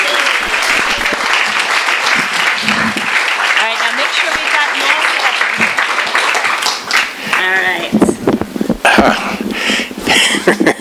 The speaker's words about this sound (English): Let's please give him a warm round of applause.